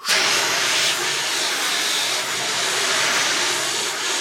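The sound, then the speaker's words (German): A steady, forceful hiss of a fire extinguisher spraying to put out a fire in a living room, loud, holding almost constant for several seconds with slight surges, no voices present. “Im nächsten Augenblick kam auch schon die Mama des Jungen mit einem Feuerlöscher ins Wohnzimmer gestürzt und löschte das Feuer.”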